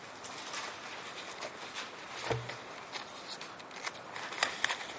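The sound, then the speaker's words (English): Bible pages turning to Isaiah chapter 40, with a steady papery rustle broken by a few crisp flicks and crackles. It is fairly quiet, with no voices. “You hear those Bible pages turning?”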